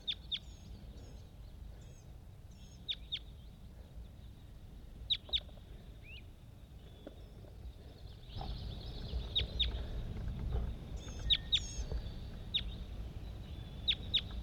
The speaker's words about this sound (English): Bird 80. Responding to a whole bunch of other wild birds all over the place. There she goes.